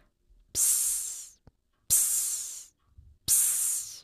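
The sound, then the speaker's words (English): Three bright bursts of steam hissing in a piece of music, each lasting close to a second, separated by short pauses in a steady rhythm. The hiss is loud and airy, with no voices. “Finally, when the steam hisses, make your own hissing sound in time with the music.”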